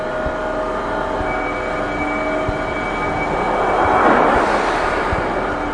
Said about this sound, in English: You're going to hear a subway door close. It's like a guillotine.